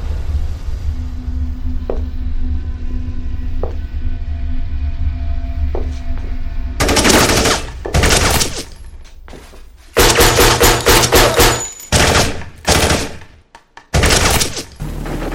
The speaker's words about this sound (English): It appears that gunshots have just been fired from inside Mr. Washington's home.